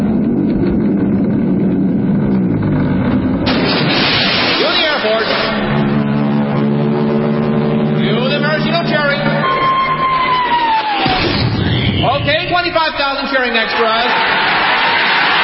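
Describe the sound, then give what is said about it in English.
Loud staged radio sound effects of a 700-foot mountain of whipped cream rolling into Lake Michigan: a deep rumbling roll with a droning Royal Canadian Air Force aircraft engine towing a 10-ton maraschino cherry, a descending whistle, then a big crowd of 25,000 extras cheering and shouting over the din. “I want the 700-foot mountain of whipped cream to roll into Lake Michigan, which has been drained and filled with hot chocolate.”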